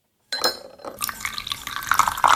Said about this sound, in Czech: mi u sebe doma nalévá kávu